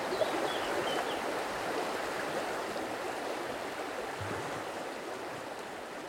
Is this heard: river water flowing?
yes